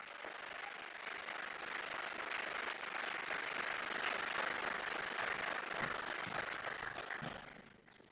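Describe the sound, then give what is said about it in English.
Sustained applause from an audience at a Congress, given for the volunteer angels who make the event possible; many hands clapping in a dense, steady wash of sound that holds for several seconds before tapering off at the end. “Thank you for making this event possible, and this is your applause.”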